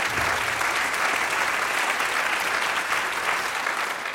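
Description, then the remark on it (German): A crowd applauds the conductor Omar Ain Zwi of the Munich Radio Orchestra, dense clapping sustained at an even, fairly loud level throughout, with no pauses and no voices standing out. “Auch noch ein Applaus für ihn. Ja, Applaus, Applaus, Applaus!”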